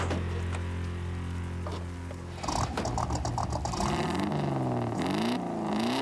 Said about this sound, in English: You never heard a prettier engine, man. It's a wreck. Just a little dirt and rust, that's all. Purrs like a kitten.